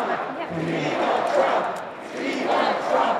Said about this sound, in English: then chants for Trump.